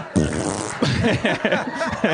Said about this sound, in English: Fart break.